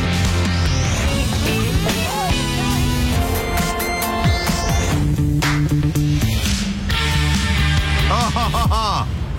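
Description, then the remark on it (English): A quick montage of song snippets previewing an hour of songs for the radio Platinum Hour, several short pieces of music cut one into the next every couple of seconds, with singing and full instrumentation kept at a steady, fairly loud level throughout. “I have chosen an hour of songs, and they sound like this.”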